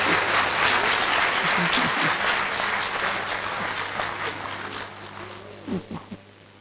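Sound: audience clapping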